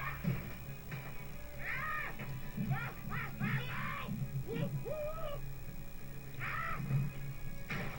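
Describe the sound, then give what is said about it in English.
A bird caws repeatedly in harsh, squawky bursts, some clustered in quick runs, over a steady low hum of video game background sound during a game cutscene. The calls are fairly loud. “Okay, if the bird can defeat them with some boxes, why am I here?”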